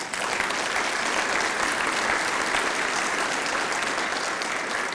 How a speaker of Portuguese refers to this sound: Aleluia! Você pode aplaudir?